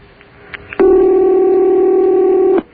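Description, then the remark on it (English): A single loud, steady electronic telephone ring on the Voice of Long Island broadcast lasts nearly two seconds, preceded by a few faint clicks. No one speaks. “Yeah, where else could you hear a phone ring but on the voice of Long Island?”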